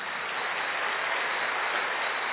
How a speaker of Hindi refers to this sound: ताली तो बजाएं.